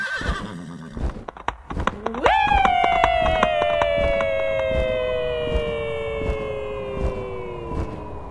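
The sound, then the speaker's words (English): Rapid galloping hoofbeats of a flying horse named Peggy clatter steadily throughout, joined after a couple of seconds by a loud, drawn-out whinnying cry that slowly slides downward in pitch over the hooves. “After that, they went flying on their flying horse, Peggy.”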